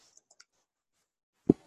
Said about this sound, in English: Are you typing that as a comment into the PR? Yep.